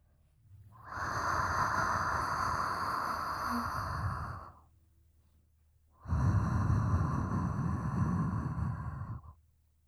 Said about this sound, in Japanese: 熱い吐息感じますか？もっと私を感じてください。